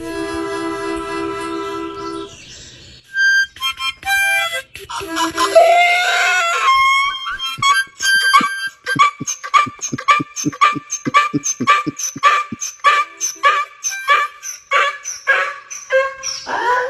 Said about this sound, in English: here's Nelson the donkey who sings when he hears a harmonica. Tell me you don't want this to happen. Hey, Nelson, do you want to sing a song?